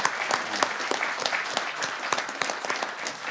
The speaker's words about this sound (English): Let's just go ahead and give the church a round of applause again.